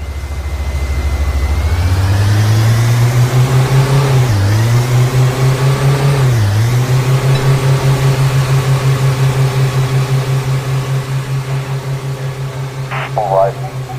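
A video game car's steady, droning engine with a buzzy, lawnmower-like tone holds a constant pitch, dipping briefly twice as if easing off, with a short higher clatter near the end.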